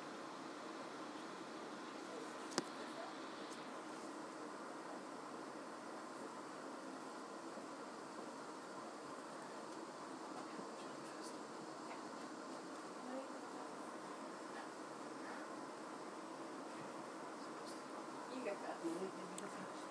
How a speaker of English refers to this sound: I'll give you 1 minute and a half of quiet on this train.